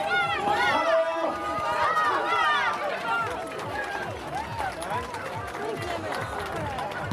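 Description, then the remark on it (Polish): A crowd of runners sets off together at the start of the 4th Colourful Sock Run (bieg kolorowej skarpetki), a charity race, many overlapping footsteps pounding steadily while voices chatter and call out in a lively background hubbub. “4. bieg kolorowej skarpetki trwa w najlepsze.”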